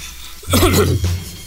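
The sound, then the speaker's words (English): A man speaking about fires gives a short, throaty cough, a single rough burst with a voiced, gravelly tail, fairly loud, followed by a brief quieter rasp. “That's the way you cough.”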